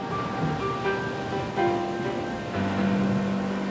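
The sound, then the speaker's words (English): Steady, heavy rain hisses continuously at a constant loudness during a thunderstorm in the hills, with soft sustained musical tones drifting underneath; no distinct thunderclap stands out. “When lightning flashed, Kate peered through the rain, trying to see the railroad bridge over Honey Creek”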